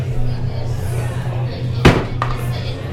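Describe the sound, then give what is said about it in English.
A bottle gets knocked over with a microphone: one sharp, loud knock followed a moment later by a fainter second tap, set against a steady low hum. “Best life hack is knocking over that bottles was with like a microphone.”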